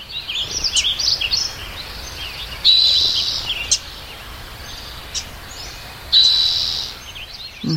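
Sparse, thin birdsong in a hushed forest at Sugarloaf State Park, California, in 2015, three years into a severe drought, with the stream no longer flowing: scattered high chirps and two brief trilling phrases over a steady soft hiss, with long quiet gaps and no voices.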